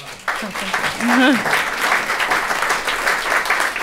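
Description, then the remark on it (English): A crowd breaks into sustained, steady applause, dense and loud throughout, with a brief voice rising above the clapping near the start, like a cheer. “And that applause line is going to be the last word”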